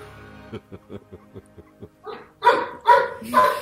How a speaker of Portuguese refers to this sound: E o cachorro também tem voz. O cachorro também tem lugar de uau. De au-au, é lugar de fala, né?